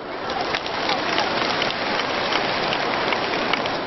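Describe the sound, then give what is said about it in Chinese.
An audience at a Buddhist teaching talk applauds in a dense, steady patter of many hands clapping together, holding an even loudness throughout with no voices over it. “稍微讲了深一点点，鼓掌的声音就少了。”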